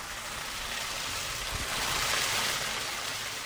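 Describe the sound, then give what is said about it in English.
A steady, continuous rush of water splashing onto stone, broad and hissing like a small waterfall, constant throughout with no voices. The water falls on stone and greets visitors at a home on Skyline Drive on Mount Sequoia in Fayetteville. “That's the rush of water falling on stone that greets visitors to the Asphalt Home on Skyline Drive in Fayetteville.”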